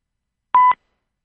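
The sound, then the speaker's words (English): A single short telephone keypad tone, a clean electronic beep lasting about a fifth of a second, sounding loud and isolated over a silent phone line. “Got a beep there. Is somebody on the line?”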